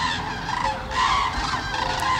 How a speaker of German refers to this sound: Ah. Ja, es war wieder soweit. Die Kraniche waren auf dem Weg nach Süden. Winter is coming, eindeutig.